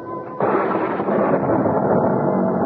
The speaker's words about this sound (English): I was startled by an enormous thunderclap, followed by the wrenching split of wood. It brought me bolt upright and in one bound to the window, where, in the courtyard below, in the flash of the lightning, I could see that the oaken cap over the well